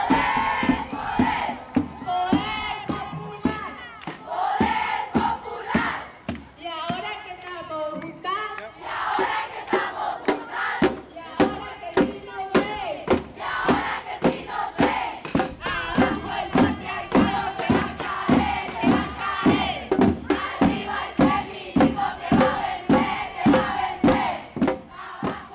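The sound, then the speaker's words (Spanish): A large crowd shouts and chants together during an 8M street march on Avenida Segunda. Voices rise in loud waves over steady rhythmic clapping or drumbeats that pulse through the whole stretch. “Este 8M fue para tomar el espacio público porque también es nuestro, porque se sentía tan bien tener toda la Avenida Segunda para correr, saltar, gritar, sin miedo, sin acoso, sin miradas, sin juicios, tan solo en libertad.”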